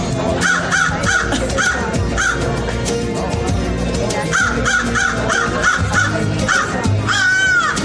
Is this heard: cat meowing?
no